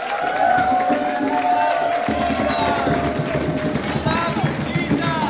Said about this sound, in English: Let's give a big cheer for Jesus.